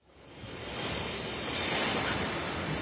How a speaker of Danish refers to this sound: Det er tog. Det er rigtigt. Til tiden? Måske.